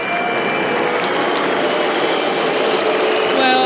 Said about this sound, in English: Booing again, I think, not so much booing Sabalenka, I think booing actually the lack of handshake, not quite understanding the dynamics at play.